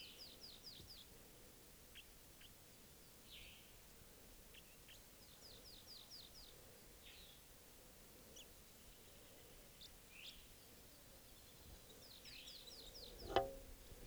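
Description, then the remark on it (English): Wild birds trade rapid, harsh chattering fighting-call bursts that repeat several times over a quiet outdoor background, with a single sharp knock near the end. “Fighting calls there by 387.”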